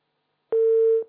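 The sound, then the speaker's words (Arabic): A single steady telephone tone sounds clearly for about half a second after a caller's phone call is cut off, a flat electronic hum with clicks at its start and end, heard alone with no voices. “قطع الاتصال، يعني يحاول الاتصال بنا لاحقا”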